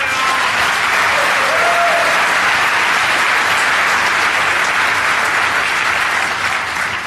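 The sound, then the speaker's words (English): Loud, sustained applause from a DEF CON audience fills the whole stretch, a dense wash of clapping with scattered cheers and whistles rising above it, steady in volume throughout. “So if I could get some cheers for those guys, that'd make me happy.”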